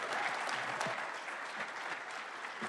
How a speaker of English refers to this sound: As we end this panel, I would just like to say, when I say people, you say power. People. People! Power. People! Power. A round of applause for our panelists here today. Thank you, everyone.